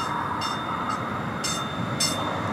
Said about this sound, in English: Not far from the camp, a light rail train is pulling in.